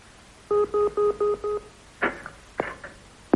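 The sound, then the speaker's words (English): A telephone number being dialed to ring Midwest Bank in the radio comedy Slow Coaches: five steady, evenly spaced touch-tone beeps in quick succession, followed by a few short, sharp clicks and crackling bursts on the line. No one speaks. “Who are you ringing, Mr.”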